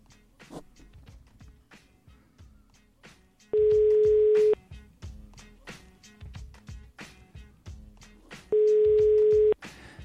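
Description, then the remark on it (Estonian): Two loud, steady ringback tones from an outgoing phone call to a birthday child, each lasting about a second and spaced roughly five seconds apart, go unanswered over busy background music. “Võtta telefon vastu, palun. Või siis ei saa võttagi telefoni vastu.”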